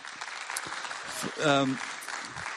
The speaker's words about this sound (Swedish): Men vi har många andra också i det teamet. Så kan ni bara ge dem en applåd.